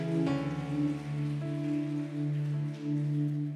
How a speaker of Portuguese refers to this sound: Pode dar um aplauso a Jesus. Pode dar um aplauso dizendo: o meu sustento vem dele, vem dele, vem dele.